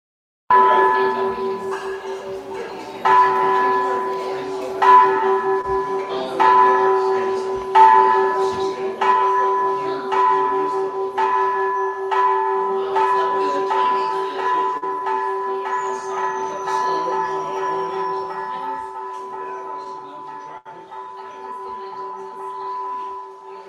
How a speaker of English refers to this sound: From Wat Chedi Luang in Chiang Mai. I thought, well, since we're talking about Chiang Mai, we should get some bells from there.